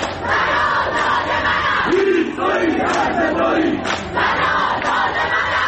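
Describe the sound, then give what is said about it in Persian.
A large protest crowd chants and shouts in unison at night in Ekbatan, Tehran, Iran, voices overlapping in a loud, continuous roar with rising rhythmic cries and brief swells, no single speaker standing out. “و اینجا اکباتان که دیگر شبها خواب ندارد.”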